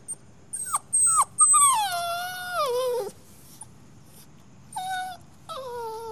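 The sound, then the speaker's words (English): A puppy whimpers at night in a series of high, thin whines: a few short yelps, then a long drawn-out whine that slides downward, and more whimpers after a pause. Fairly loud, with no talking. “At night, the terrors visit.”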